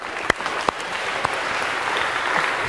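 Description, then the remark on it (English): An audience claps steadily, a dense wash of many hands at an even, moderate loudness, with a few sharper individual claps standing out early on and no voices. “So a big round of applause if we can for these four.”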